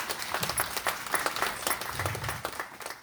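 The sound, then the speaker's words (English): A crowd applauds the student mentees of a mentoring program steadily for about three seconds, many hands clapping in a dense, crackling patter at an even, moderately loud level with no voices on top. “So please give our mentees a round of applause for stepping up.”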